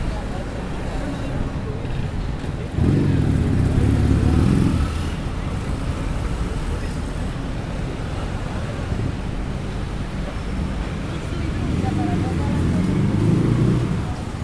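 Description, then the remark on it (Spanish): Shrill city buses (colectivos, public transport) in Buenos Aires rumble by in the distance, about 50 meters away, a steady low traffic drone swelling into louder passes around the third and twelfth seconds, peaking at 78 to 80 decibels, with wind-like noise throughout. “El sonido estridente de los colectivos a lo lejos, ¿sí?”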